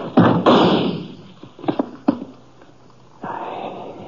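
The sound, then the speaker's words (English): A loud, sharp gunshot bursts out, the bullet splintering into a wooden chair that had been pushed, followed by a few hard wooden knocks and clatters as the chair topples and hits the floor, then a brief rustling noise. “The bullet splintered into the chair before it even toppled over.”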